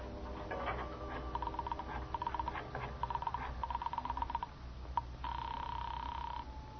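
A telephone in a hall being dialed: several quick bursts of rhythmic clicking, one after another, then a steady ringing tone on the line. It is fairly quiet, with no voices.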